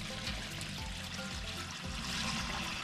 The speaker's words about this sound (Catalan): Això se'ns omplirà d'aigua, quan se'ns ompli d'aigua farà una recirculació d'aigua, nosaltres tenim un sistema de recirculació per no gastar aigua i anirà entrant i sortint l'aigua de manera que refredarà aquest serpentí